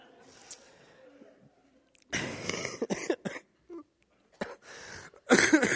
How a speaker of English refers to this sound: pardon me. Don't make me laugh. I guess I coughed then.